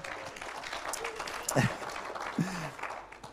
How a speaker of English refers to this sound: Moms, you got the nerves of steel. I'm for real. Give moms a hand clap.